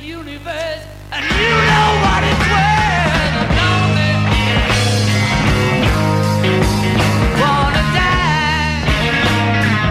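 A loud live rock blues song: after a brief quieter opening, the full band crashes in with pounding drums, heavy bass and guitar beneath raw, screaming vocals that bend and strain throughout.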